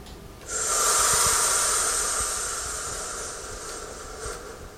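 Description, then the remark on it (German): A long, deep breath, a steady airy rush lasting several seconds before slowly easing off, taken as a round of breathing with an audience. No one speaks. “So erstmal Publikum ins Boot holen und ja, einfach erstmal eine Runde atmen.”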